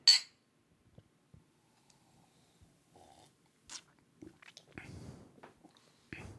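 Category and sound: food or drink, sipping beer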